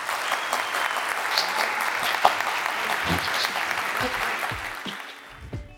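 A crowd applauds steadily, a dense wash of many hands clapping at an even level before thinning out and fading toward the end.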